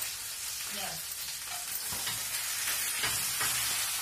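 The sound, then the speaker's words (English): Fish sizzles steadily in a hot pan, a continuous close crackling hiss with faint low scraping or clinking now and then, and no one speaking. “So will you keep the fish warm and then still got a frying thing?”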